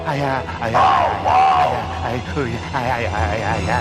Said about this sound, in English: did you hear someone yelling this way?